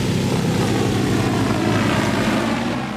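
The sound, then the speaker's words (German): A steady, loud droning whir from the propellers of a large cargo drone flying overhead, carrying the harvest in from mountainous slopes in China with dust stirred up in the air. The sound holds constant throughout, with no voices present. “Mit einer großen Lastendrohne wird die Ernte von den bergigen Hängen eingeflogen.”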